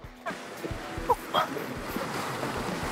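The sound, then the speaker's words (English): Hot spring water at Dragon's Mouth Spring churns and hisses in a steady, rushing roar with low rumbling surges, broken briefly by a couple of faint, high chirping tones in the middle. “Dragon's Mouth Spring. For once, the name actually looks and sounds like the name.”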